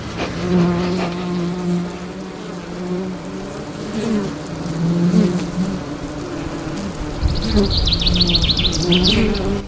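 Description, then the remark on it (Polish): A steady drone of honeybees buzzing around hives, rising and falling as bees pass, with birds chirping brightly in the background toward the end. “Ptaki śpiewają, owady bzyczą, a ich rodziny szemrzą w ulach.”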